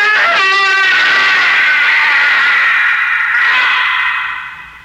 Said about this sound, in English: But you didn't expect a minor gesture could cause that piercing, shattering, evil scream that shriveled your tolerance to a shivering fear.